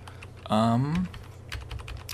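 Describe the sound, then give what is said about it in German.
A brief falling tonal sweep, then a run of quick, crisp keyboard clicks typed at an uneven pace, moderately loud. “Klick-klack.”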